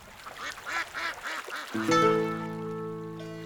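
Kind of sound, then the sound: bird, ducks quacking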